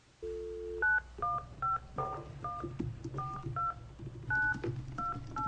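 A brief dial tone gives way to a quick run of about ten telephone keypad beeps, each a short dual-tone chirp, pressed in an uneven rhythm over a low hum, as a witness is dialed in by phone during a hearing before senators.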